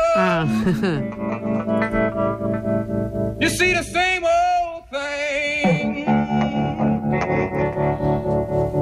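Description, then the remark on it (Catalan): An old-style blues song evoking the late 1930s, a traditional song in the performers' own arrangement, with a voice singing a wavering melodic line over steady, continuous accompaniment at an even, fairly loud level. “Aquí fan molt com homenatge al blues dels anys final dels 30.”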